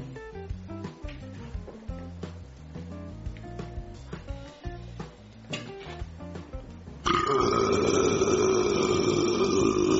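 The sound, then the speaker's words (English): A loud, drawn-out burp rumbles and croaks in uneven pulses for several seconds, then a louder steady drone takes over until the end. No one speaks. “Did you hear that? I could burp like that too if I had a drink or something other than green beans.”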